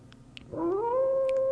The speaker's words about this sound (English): I think we needed a howl there